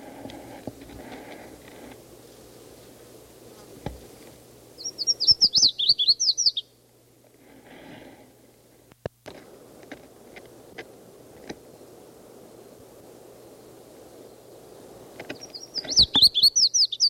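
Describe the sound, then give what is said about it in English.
A red-faced warbler sings two short bursts of rapid, high, sweet notes, separated by a long quiet stretch with soft rustling, a low steady hum and scattered sharp clicks. “It's a red-faced warbler again. This is after several other calls.”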